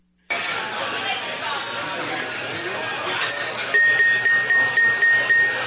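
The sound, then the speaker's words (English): Glass clinks in a toast ring out as about seven quick, evenly spaced chimes with a lingering bright tone, rising over a steady murmur of crowd chatter that fills the background. “would play the raise your glass sound.”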